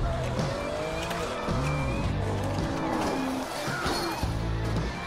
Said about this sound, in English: Oh, there's a skid! Oh, and there's a wreck! The cars are piling up!